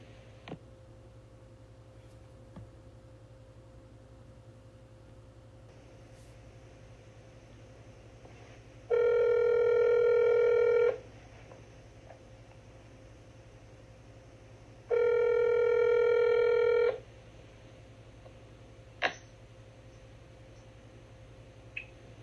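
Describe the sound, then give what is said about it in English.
Two steady, buzzy telephone-line tones as a call is placed on the Divine Inspiration Time of Encouragement program, each about two seconds long and separated by a pause, over a low background hum, with a few faint clicks between them. No one speaks. “Let's get him on the line.”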